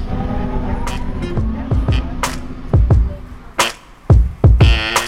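Busy city street ambience: a steady low traffic rumble with engines humming, punctuated by several sharp knocks and clatters, and a faint voice murmuring underneath.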